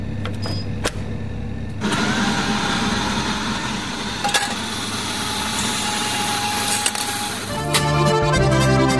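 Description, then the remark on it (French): A short radio station jingle played at 9:30 with no voices: an engine-like roar builds after a second, holds steady with a faint whine, and ends with a louder burst of tonal, musical sound. “Allez, il est 9h30, c'est l'heure du jingle.”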